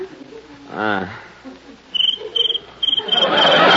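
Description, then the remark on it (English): A cricket chirps in short, regular bursts, starting after a brief vocal sound and growing louder and more insistent toward the end. “I'll fix that cricket.”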